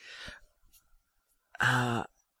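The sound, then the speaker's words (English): Someone blows their nose: a short, breathy rush of air, a brief pause, then a louder, buzzy honk lasting about half a second, with no talking. “What is that? I'm sorry, I'm blowing my nose.”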